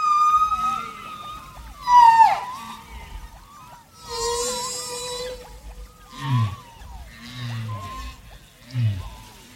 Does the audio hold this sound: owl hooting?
no